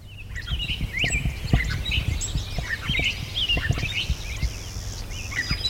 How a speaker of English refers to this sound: Oh, clay-colored sparrow.